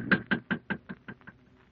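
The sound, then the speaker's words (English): Someone raps on a door in a quick, steady series of about eight knocks, evenly spaced, each a little softer than the last until they fade out. “Shall we knock? Yes, we shall knock.”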